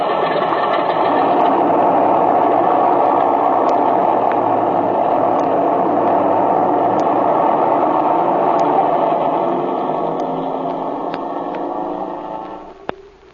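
An airplane engine runs loud in a steady, buzzing drone, holding constant before easing slightly in the final seconds. No voices are heard.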